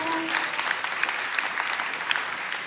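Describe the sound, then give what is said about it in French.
An audience claps steadily, a dense wash of many hands applauding together at moderate volume, with no voices standing out above it. “On peut les applaudir encore une fois très fort, s'il vous plaît.”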